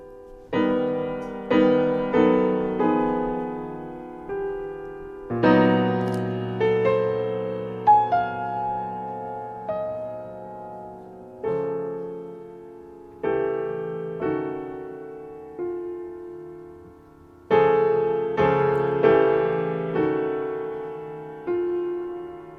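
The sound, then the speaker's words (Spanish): Solo piano music played by its own composer: slow, sparse chords and melodic notes, each struck clearly and left to ring and fade before the next phrase. The playing is unhurried, with no voices. “Es Federico Mompou. Lo acojonante del asunto es que es él tocando”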